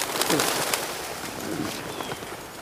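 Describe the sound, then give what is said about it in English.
Birds call outdoors, two soft, low cooing phrases standing out against a steady background hiss, not loud, with no one talking. “You'll scare all the birds away.”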